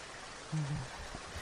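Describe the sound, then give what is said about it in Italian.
Heavy rain pours down in a dense, steady hiss that fills the whole moment, with a brief low murmur rising faintly beneath it partway through. “Mamma mia, se piove.”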